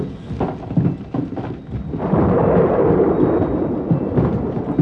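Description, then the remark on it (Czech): A thunderstorm with heavy, rumbling thunder and hail, starting with a few rough bursts before swelling into a loud, continuous roar, with no voices. “Jehova seslal bouři. Kroupy a blesky udeřily na zem.”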